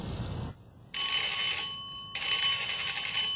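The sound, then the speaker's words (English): A mobile phone rings in two electronic bursts, each a bright, steady high-pitched trill with a short pause between, loud with no voices. “I'll just go over there and call someone on my mobile phone.”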